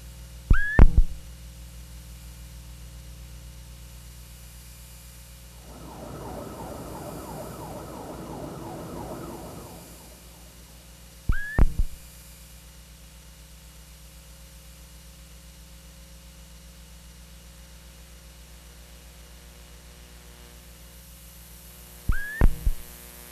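Electronic hum and buzzing from a self-built electromagnetic-field sensor sonifying vibrations of phone booths, subways, trolleybuses, power lines and televisions in São Paulo, Brazil, with three sharp, bright clicking bursts spaced about ten seconds apart and a louder band of dense buzzing noise in between, all without speech.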